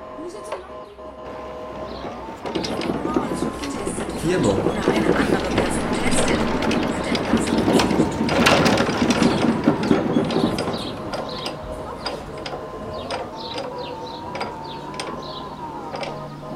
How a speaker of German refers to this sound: This is a bohrmaschine with balls.